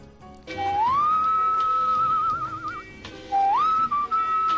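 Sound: human whistling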